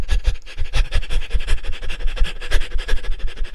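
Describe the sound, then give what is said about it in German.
Rapid, rhythmic panting breaths done as a breathing exercise to activate the diaphragm, fairly loud, in quick even bursts of several per second that continue steadily throughout with no talking. “Macht das ruhig noch 3-4 Mal, dass ihr ein paar Sekunden hechelt, dann zur Ruhe kommt und dann nochmal für ein paar Sekunden ins Hecheln geht.”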